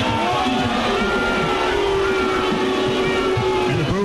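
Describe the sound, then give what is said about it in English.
A large football crowd boos loudly and steadily after a flag is thrown on an incomplete pass, a dense, sustained roar with a low droning 'boo' tone that holds for several seconds without letting up. “You can definitely hear the booing over the referee”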